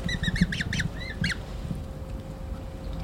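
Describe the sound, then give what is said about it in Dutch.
Eurasian coot chicks in Amsterdam give a run of high, thin peeping calls in quick bursts, several overlapping, over a steady low rumble; the calls fade out after about a second and a half. “Het zijn dus de jonkies die we horen, hè?”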